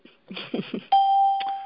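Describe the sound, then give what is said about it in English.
A conference-call join beep: one loud, steady electronic tone starts abruptly and holds for nearly a second, preceded by a brief burst of muffled, voice-like murmuring. “Can you hear people joining? I can hear the beeps, yeah.”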